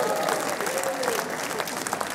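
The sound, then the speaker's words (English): An audience claps and applauds steadily for cassette tapes, a dense wash of many hands with no clear rhythm, fairly loud and continuous throughout. “Let's hear it for cassette tapes.”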